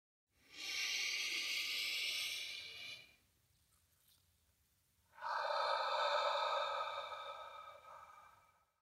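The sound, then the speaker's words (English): A slow breath during a guided meditation: a long airy inhale through the nose, a short pause, then a longer, softer whooshing exhale through the mouth, with no talking. “Breathing in through the nose and out through the mouth.”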